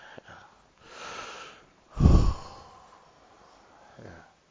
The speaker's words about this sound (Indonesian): Mujarrad. Hanya tarik napas. Karena sudah mau marah.